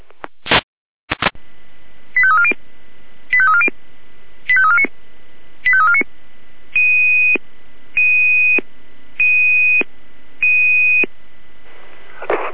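A fire brigade radio alert tone sequence calling out Florian Kahla 143.1 to an oil spill starting at Kreuderer Weg 1 in Kahla: a clicky burst, then eight evenly spaced electronic beeps, four warbling and four steady, loud and clear with no voices.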